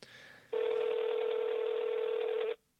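A telephone tone sounds once, a steady, buzzy electronic note lasting about two seconds, loud and close, after a brief stretch of faint line hiss. No one speaks.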